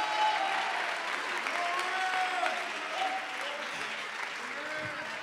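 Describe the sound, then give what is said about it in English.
An audience claps steadily in a dense, continuous burst of applause, with voices calling out amen mixed into the clapping throughout. “And if you believe it, clap si lo your crees, hands and shout aplauden amen.”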